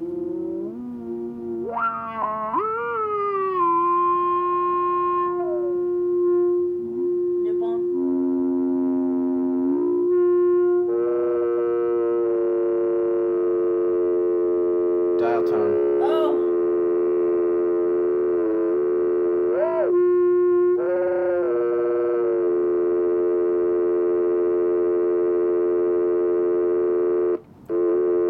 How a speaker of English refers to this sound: Sounds like a dying dial tone, if anything.